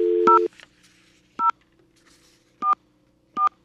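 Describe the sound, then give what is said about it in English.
A steady dial tone cuts off as touch-tone keys are pressed to dial a phone number, four short dual-pitched beeps spaced about a second apart, clear with a faint hiss between them. “That's the dial tone, and now we're going to dial the number.”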